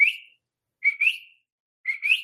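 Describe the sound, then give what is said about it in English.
A person whistles an imitation of a coqui frog's call, a bright, rising two-note chirp repeated about three times with short pauses, clear with no talking. “I heard the coqui whistling. It's this tiny and it's able to make this very loud whistling sound.”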